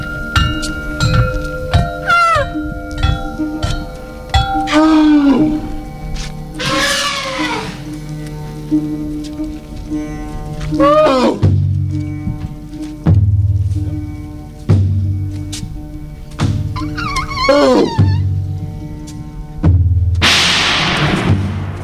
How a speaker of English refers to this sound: Very interesting little piece because, you have an orchestra of elephants, and they also do the vocal parts